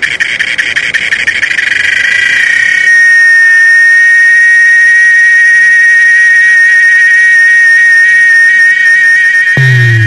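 A loud, shrill cicada buzz drones on, rattling at first and then settling into a steady, piercing whine, with a brief low thump near the end. No one speaks.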